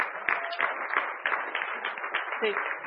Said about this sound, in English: And let's see what you have won. What a round of applause.